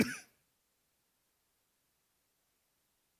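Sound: coughing and throat clearing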